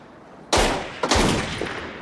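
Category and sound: sound effect, gunshots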